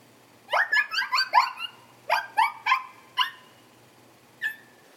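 A dog yaps in quick, high-pitched bursts, a rapid flurry of about five barks, then a few more spaced out, ending with one lone yip. Lively, with no one talking.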